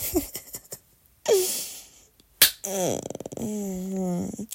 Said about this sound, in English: Oh, God, you want to slap my ass before you fuck me? Oh, my God. Oh, fuck. My ass is a little big.